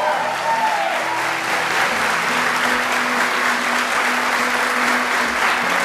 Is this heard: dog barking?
no